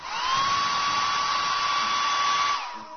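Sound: hair dryer blowing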